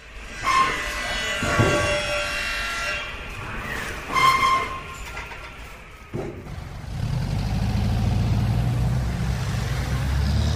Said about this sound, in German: Der Bus oder das Auto kommt nicht immer durch den dichten Verkehr, weil schon wieder eine Großbaustelle Straßen verstopft hat und Umleitungen in die Innenstadt dicht machen.